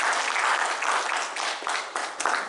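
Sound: audience applauding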